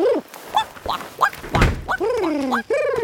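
A door opens with a single dull thunk partway through, surrounded by a series of short, nasal, rising-and-falling quacking calls before and after.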